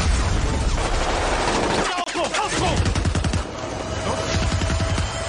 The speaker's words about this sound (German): Pulsierende Töne, verzerrte Geräusche, ratternde Schusssalven und der infernalische Lärm explodierender Granaten werden unterschnitten von absoluter Stille.